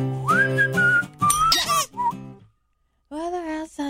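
A person whistles a cheerful holiday tune, a clear melodic line with sustained notes and quick slides, briefly pausing into silence before the whistling resumes for a final phrase.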